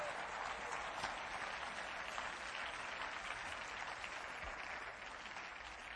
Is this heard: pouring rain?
no